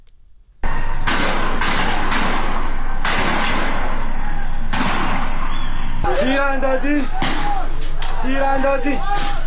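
Gunshots ring out every second or two outdoors during an anti-government street protest in Borujerd, Iran, on 23 Ordibehesht 1401, sharp cracks echoing over a noisy crowd, with people shouting and crying out between the shots.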